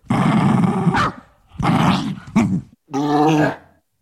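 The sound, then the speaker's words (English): A small female Shih Tzu poodle dog, collar off, lying on her back on a bed in a quiet space, growls in three rough, loud bursts separated by short pauses, the last one more tonal and whiny, with no one talking. “She's a Shih Tzu poodle.”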